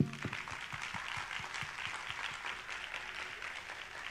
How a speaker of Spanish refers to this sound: Pero es súper, creo que bien valioso e importante dar un fuerte aplauso. La verdad es que, como decimos, se la rifaron.